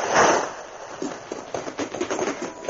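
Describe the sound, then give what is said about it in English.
A half dozen wooden packing crates crash down onto a pier dock in a loud, broad burst, followed by a rapid, uneven run of clattering knocks and thuds as they tumble and settle. “I dive headfirst into the open warehouse door as a half dozen packing crates crash on the dock just a few feet away.”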